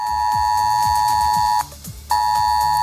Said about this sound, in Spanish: Es alert, avisaba a los vecinos de la provincia de Zaragoza de la peligrosidad de las lluvias.